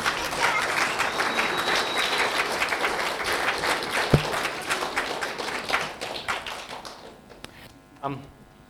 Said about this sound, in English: Thank you, everybody, for taking part. That was brilliant. Give them all a big clap.